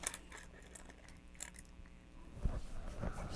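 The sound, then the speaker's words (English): A baby chews and gnaws on a hard toy with soft wet sounds, small clicks and crunchy scrapes in an irregular rhythm, quiet with no talking. “Stuff to chew on, huh?”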